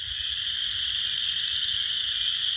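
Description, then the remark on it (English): A dense, continuous spring chorus of spring peepers and chorus frogs in Wisconsin, countless high piping calls blending into a steady shrill wash with a low rumble underneath, no voices present. “that's one of my favorite spring sounds, which is not a bird, but it is these peeper frogs and actually chorus frogs, too.”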